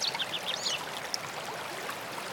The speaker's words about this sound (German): Bringen Sie Ihre gesamte Aufmerksamkeit auf das Geräusch der Vögel. Alles andere ist nicht von Belang. Achten Sie auf das Geräusch der Vögel. Bleiben Sie bei der Wahrnehmung der Vögel. Achten Sie darauf, wie die Vögel klingen.